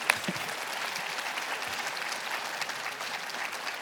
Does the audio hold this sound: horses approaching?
no